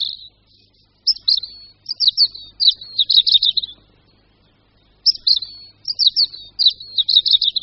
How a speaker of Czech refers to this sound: Při zpěvu sameček červenky sedí zpravidla vysoko nebo výše někde na větvi a každou strofu začíná takovými slabšími, ostrými zvuky a po nich pak následuje pro červenku tak typický trilek a zpěv opět je zakončen takovými slabšími, smutnějšími tóny.